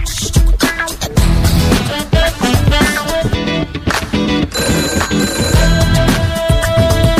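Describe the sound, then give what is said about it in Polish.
A telephone rings loudly and insistently, its bright electronic trill repeating in quick bursts over several seconds, with a dense, busy backdrop and no one speaking; an incoming listener call to place a classified ad on a radio broadcast. “I kolejny telefon, i kolejne ogłoszenie na naszej antenie.”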